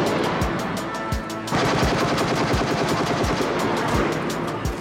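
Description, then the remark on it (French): Sustained bursts of automatic gunfire from terrorists shooting at an assaulting column of 15 BRI police officers behind a shield, at 12:18 a.m.: rapid sharp cracks repeating in a steady rhythm, loud and dense throughout with no voices, growing thicker about a third of the way in. “Le porte-bouclier, il encaisse le feu des terroristes qui tirent.”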